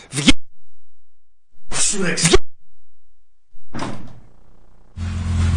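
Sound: door closing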